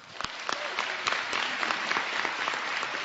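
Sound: burst of applause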